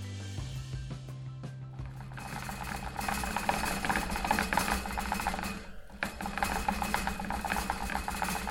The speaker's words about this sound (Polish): To chomik biegający po kółku.